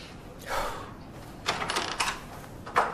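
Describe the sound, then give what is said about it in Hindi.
A door is opened with a few sharp clicks and rattles of the latch and handle, in short separate bursts over a faint background hiss. No one speaks. “देखो अभी मैं दरवाजा खोल रहा हूं, बाद में तुम्हें फोन करता हूं।”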